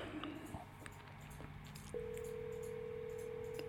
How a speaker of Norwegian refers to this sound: Ok, men tenker vi bare legger på nå, så får vi håpe at han ringer tilbake når han ser at vi har ringt da.